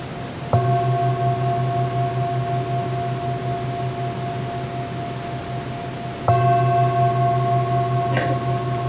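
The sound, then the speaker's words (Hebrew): A meditation bell is struck twice, about six seconds apart, at the end of a seated meditation, each strike ringing out with a long, steady, humming sustain over a faint background hiss. “וכשהצלצול של הפעמון מגיע, אפשר להתרווח בתוך המודעות לשמיעה, האיכות שיודעת צליל.”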